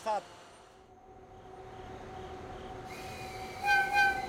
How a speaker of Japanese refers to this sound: そして列車の後方では、浅間が薄い峠を越えるための最後の連結準備が始まろうとしていた。